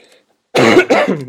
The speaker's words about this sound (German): Entschuldigen Sie bitte, ich trage noch etwas, einen Husten mit mir rum.